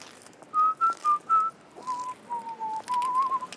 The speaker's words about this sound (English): German audio booths will be peppered with whistling